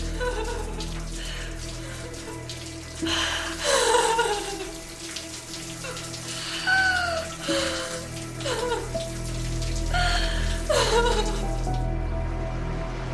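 household object, shower water running

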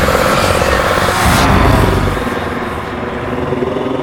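vehicle, airplane engine roaring

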